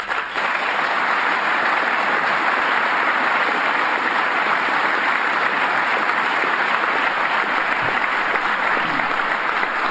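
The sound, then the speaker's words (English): Sustained applause from a large audience during a speech by Barack Obama on financial reforms, a dense, steady roar of clapping that stays loud and even from start to finish with no voices on top. “That is some long applause.”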